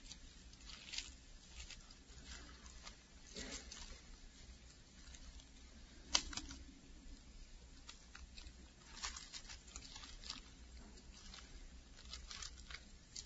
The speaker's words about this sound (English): Like that sound of pages turning, people flipping back and forth.